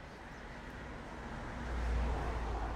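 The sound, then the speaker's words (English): Steady street traffic rumbles along, with a car engine swelling louder as it speeds past, its low roar building over a broad wash of road noise. “The walk continues down the street, past busy people, speeding car.”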